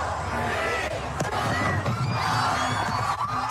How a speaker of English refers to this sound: That's in Australia, where it's now 2024 there. Happy New Year! Woo! There were fireworks along Sydney Harbor, thousands celebrated on beaches along the coast.